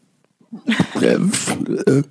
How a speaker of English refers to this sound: That was great. That was a great burp. First of all, I held it in for a longer time just to let it grow and build. Yeah. I restrained myself